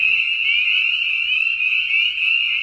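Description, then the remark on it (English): A dense, continuous chorus of spring peeper frogs heard from a distance, their high shrill peeps blending into a steady, jingling shimmer like faint sleigh bells, with no voices present. “Sometimes, distant choruses can sound like sleigh bells.”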